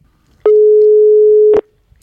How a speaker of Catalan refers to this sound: Bé, doncs, això que sonava que era el telèfon